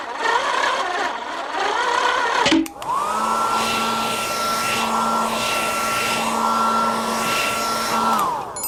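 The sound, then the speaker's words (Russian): After a brief click, a hair dryer switches on with a rising whine, then blows at a steady, loud, airy roar for several seconds to dry the paint on a toy sailboat, before winding down near the end. “а у тебя же в помогаторе есть фен. Может, включишь его, чтобы быстрее высушить кораблик?”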